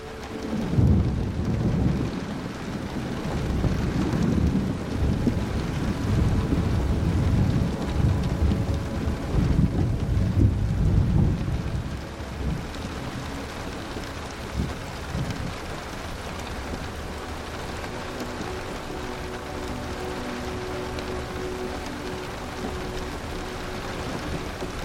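Gentle, low rumbling thunder rolls in the distance for the first half while steady raindrops patter on a train roof, the rumble fading to leave a constant wash of rainfall.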